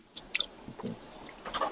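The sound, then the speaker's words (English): A speaker's pet parrot squawks and chirps in short, scattered bursts, with a couple of sharp high calls and a brief whistle-like trill near the end, heard fairly faintly over an online group call. “My parrot does, so I better mute myself.”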